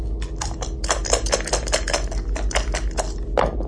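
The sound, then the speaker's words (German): Dice clatter across a hard table in a rapid, uneven burst of small clicks and rattles, fairly loud, with no voices. “Bin ich jetzt dran? Hier sind die Würfel.”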